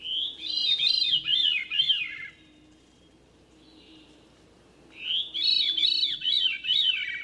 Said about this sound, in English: Or a thrush, like this veery.